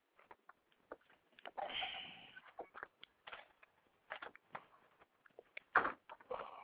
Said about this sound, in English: Sure sounds like she's got done swallowing a bottle of sandy water. Long-ass swallow she just did. She's got done swallowing sandpaper.